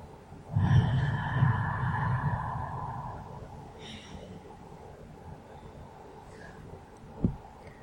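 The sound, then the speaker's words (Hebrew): A long, deep breath drawn in and slowly let out, followed by a couple of fainter, shorter breaths, taken as one of two or three deep breaths while sitting in a hall with other people. “אפשר לקחת 2-3 נשימות עמוקות.”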